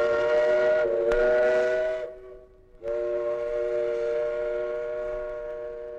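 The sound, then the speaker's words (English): The steam whistle of a Rhine River boat blows a steady, chord-like tone, breaks off briefly and dips, then sounds again and holds its long blast to the end, with no voices. “Ahoy there! This is the Rhine River boat.”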